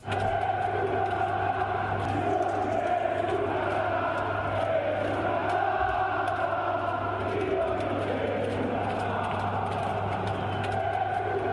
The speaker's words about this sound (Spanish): Luego los gritos de una parte de la afición, una parte importante de la afición sobre Mirotić. Estos.